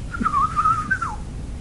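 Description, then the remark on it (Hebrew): A person whistles one sustained, wavering mid-pitched note that dips slightly and ends in a quick downward slide, a bird-like imitation over a low background murmur, with no talking. “כמו השריקה של הציפורים.”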